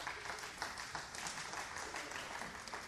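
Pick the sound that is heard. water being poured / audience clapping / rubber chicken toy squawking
audience clapping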